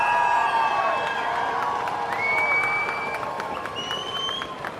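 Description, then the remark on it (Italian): A large outdoor crowd of protesters in a square breaks into sustained applause at the news that Zelensky will have the controversial law modified, a dense wash of clapping mixed with cheers and several shrill whistles rising above it, loud and steady throughout. “Alla notizia, la piazza scoppia in un applauso.”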